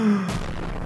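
sound effect, explosion sound effect

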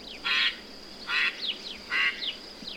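bird, duck quacking

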